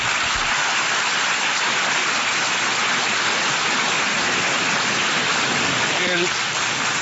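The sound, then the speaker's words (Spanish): A large crowd at the United Nations General Assembly applauds President Juan Manuel Santos steadily for several seconds, thousands of claps blurring into a dense, loud, hissing roar that never lets up. “Aplausos, presidente Juan Manuel Santos, en la Asamblea General de Naciones Unidas.”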